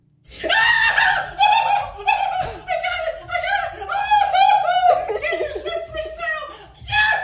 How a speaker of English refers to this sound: Screaming like a little girl when you qualified for … presale.